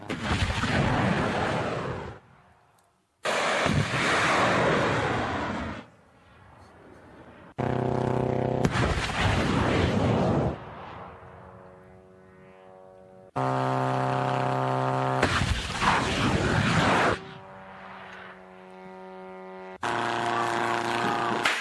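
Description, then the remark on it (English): Several loud, roaring Shahed drone launches in a row, each a harsh rocket-booster blast lasting a couple of seconds, separated by the steady, buzzing whine of small propeller engines. “We're going to watch the launch of Shahed drones here.”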